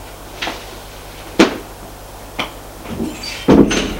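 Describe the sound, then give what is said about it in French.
Three wooden knocks by a man on a door, about a second apart, then the door creaks and bumps open with some shuffling as people enter a room; no one speaks. “Un des hommes frappe à cette porte. Entrez ! Ils entrent.”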